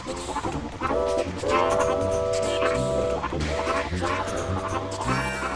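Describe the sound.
A train pulls away along the rails with a steady, loud rumble, while long sustained horn-like tones sound over it and murmuring voices stay in the background.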